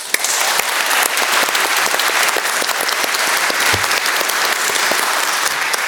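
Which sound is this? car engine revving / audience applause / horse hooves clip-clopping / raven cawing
audience applause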